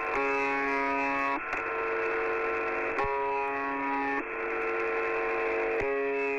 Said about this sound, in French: cette fois-ci en Russie, il y a une station russe qui s'appelle UVB76 qui diffuse que des bips depuis 50 ans. Et en fait quand on se branche sur la station, on entend ça.